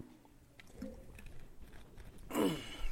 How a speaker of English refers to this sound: Well, take a drink of water and I'll tell you.